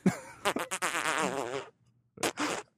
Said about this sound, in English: Just turn around and fart. Snap. Play the wet one.